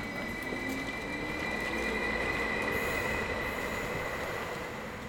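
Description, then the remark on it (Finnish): A train rumbles steadily at a station with escalators, with a sustained high-pitched squeal of wheels on rails running through the whole stretch, like a train pulling into or out of a station. No one speaks. “Mutta silloin kun tästä junasta lähtee ihmiset ulos, niin tässä on yleensä niin paljon ihmisiä ja kaikki niin kuin ahdistaa, niin mä yleensä vältän tätä.”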